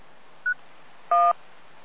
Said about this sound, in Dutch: Ik hoor alleen Foxtrot November, en er zit een of ander soort rotje piep op. Eventjes microfoon ingedrukt houden en dan spreken graag.